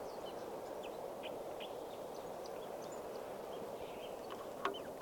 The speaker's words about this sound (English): back at the scout camp, the water hole, and there's a bird right here, a red male, singing from a low branch right above the water hole.